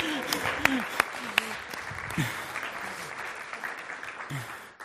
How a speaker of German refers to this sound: Okay, ein Applaus